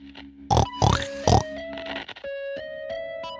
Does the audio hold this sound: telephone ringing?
no